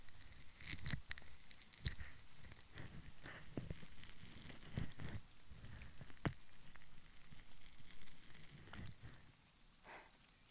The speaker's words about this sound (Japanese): 少し湿った綿の音。この音、私好きです。雨音といい、水の音が好きなのかもしれません。